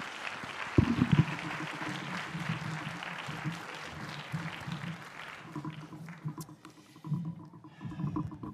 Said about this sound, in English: And you just gave him an applause here and welcoming them, but let's do that again and give him a big welcome.